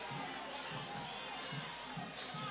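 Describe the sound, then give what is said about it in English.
A football crowd roars in a steady, dense wash of voices, with low rumbling swells and scattered shouts that sound displeased, like booing and jeering spread across the stands, as the crowd reacts unhappily to the officiating. “You can hear our crowd. They are not happy with the officiating.”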